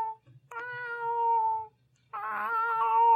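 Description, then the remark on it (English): A person imitates a cat's meow twice: a long, steady drawn-out call, a short pause, then a second wavering, more strained meow. No talking. “Can we hear your meow?”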